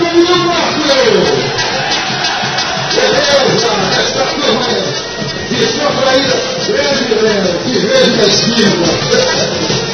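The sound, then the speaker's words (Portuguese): A carnival crowd of the Tuta Beba Égua bloco shouting: a dense, loud wall of overlapping voices with rising cheers and yells, sustained without a break throughout. “E a galera gritando!”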